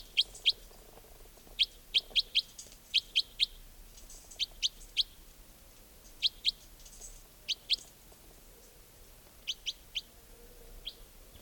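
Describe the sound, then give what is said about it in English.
Wild birds call from the tops of larch trees, repeatedly in short, high-pitched chirps, often in quick pairs or bursts, scattered over a quiet, faintly hissy background with no talking. “They may have all taken off completely, but I've got a feeling there might be a bird or two nearby.”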